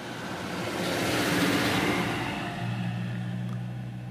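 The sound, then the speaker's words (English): A car passes by outdoors during an outdoor recording: a broad whooshing rush swells to a peak and then eases off, leaving a steady low engine hum. No one speaks. “I mean, even though there's cars passing by, the audio quality is quite high.”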